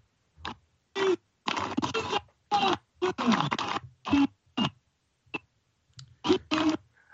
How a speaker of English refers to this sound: Well, that is the sporadic sound of soldiers cheering as Azerbaijan says its forces have entered the Lachin district, the last of three handed back by Armenia, as part of a deal that ended 6 weeks of fighting over the breakaway Nagorno-Karabakh